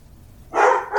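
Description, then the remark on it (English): A dog named Oliver barks sharply once, loud, then starts another bark right at the end, with quiet background before the first. “I can get some barking on the podcast for a minute.”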